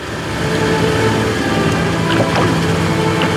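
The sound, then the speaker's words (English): A boat on Manila Bay in the Philippines, carrying a woman with a wreath of flowers: a steady motor drone with broad rushing wash as it cuts across open water, loud throughout, with a few faint splashes and knocks. “got a wreath of flowers, boarded a boat, and took her grief out onto Manila Bay.”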